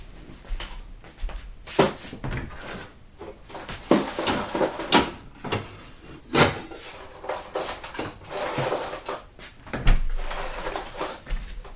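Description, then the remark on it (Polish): Busy rummaging through a drawer while tidying it: irregular knocks, scrapes and rustles of objects being shifted and sorted, with a few sharper clacks, continuing steadily without any voices. “Ty od rana siedzisz z nosem w jednej szufladzie, a obok ciebie leży całkiem pusty worek na śmieci.”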